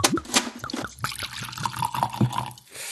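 Liquid pours from a newly opened, corked bottle into a glass, a gurgling splash with a few clinks and glugs over about three seconds, with no one speaking.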